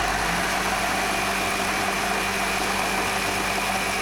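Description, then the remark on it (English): Two motorized kitchen machines in a coffee shop, an espresso grinder and a blender, roar together in a loud, steady whir with a constant droning hum and high grinding hiss, unbroken throughout. “As Garrett opened his mouth to reply, the espresso grinder and the blender fired up in unison.”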